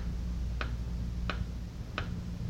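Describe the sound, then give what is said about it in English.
A clock ticks steadily, three sharp clicks spaced evenly about two-thirds of a second apart, over a low, constant hum with no one speaking. “A voice, a clock, a boy, and you.”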